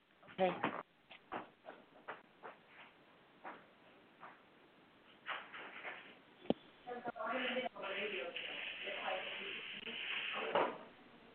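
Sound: door being opened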